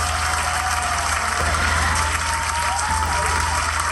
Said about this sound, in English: What? Not enough applause? What's your problem, huh?